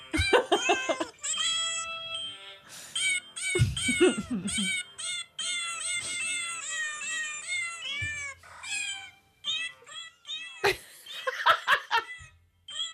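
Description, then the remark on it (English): A rapid string of high, pitched cat meows, strung together almost like a tune, plays for several seconds, with bursts of people laughing near the end. “My cat's actually traumatized.”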